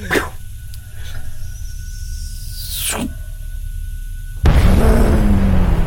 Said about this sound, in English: A massive plume. You ever seen, like... A gasoline explosion, you know, that really mucky, that's cool, that huge plume. We can feel the heat. Oh, yeah. Like, it isn't pushing you backwards, so it hasn't got a concussion wave